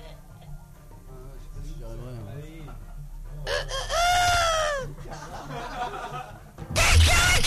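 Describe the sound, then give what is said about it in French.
A person imitates a rooster's crow: one loud, drawn-out, wavering call rising then falling, preceded by quieter vocal sounds and followed by a sharp noisy burst at the end. “Le bruit du coq.”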